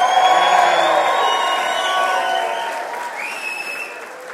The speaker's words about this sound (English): Wow, we got a packed house here tonight. Ladies and gentlemen, welcome to Coaster Mania 2010 here at Cedar Point. Let me hear a really good yell if you just had a great dinner reception.